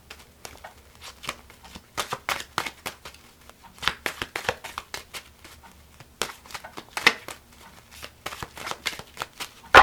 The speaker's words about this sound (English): Okay, shuffle and cut into three like you did before.